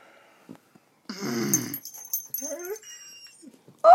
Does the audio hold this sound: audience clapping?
no